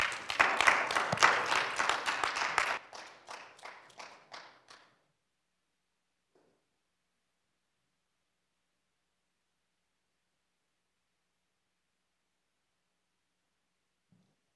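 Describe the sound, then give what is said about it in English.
A church audience applauds loudly for a couple of seconds during a worship service, then the clapping thins to a few scattered claps that fade out, leaving about ten seconds of near silence. “Give the Lord a big clap again.”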